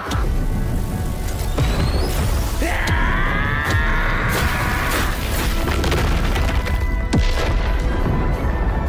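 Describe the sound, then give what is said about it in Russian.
A fire arrow spell explodes in a loud, sustained roaring blast, with a bright swooping whoosh partway through and sharp cracks scattered across the rumbling fiery noise. “Огненная стрела!”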